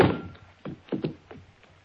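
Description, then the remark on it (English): A heavy, dull thud of a blow to the head, then fading into several softer, scattered knocks and bumps over the next second or so. “I hang up the phone and start to turn around just in time for whoever sneaked in behind me to lower the 6 o'clock boom. I feel the thud.”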